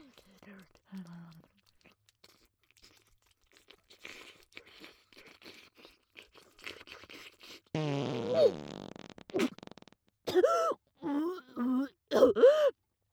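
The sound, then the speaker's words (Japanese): After soft, wet mouth noises, a sudden loud fart blasts out, a rippling, sputtering burst lasting a couple of seconds, followed by a voice groaning and reacting. “急におならするのやめてよ、ひどいんだから。”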